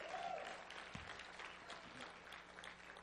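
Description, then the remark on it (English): Steady applause from a church audience during a service, a dense wash of many hands clapping together at moderate volume, continuing evenly for a few seconds. “Come on, the first service applauded that better than you are.”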